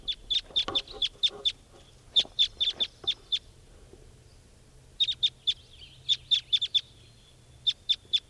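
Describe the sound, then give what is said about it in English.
A male-female pair of wild red crossbills calls: repeated sharp, high-pitched chips given in quick bursts of several notes, with short pauses between the bursts, loud and clear with no voices. “901 Wild Cross Bills here.”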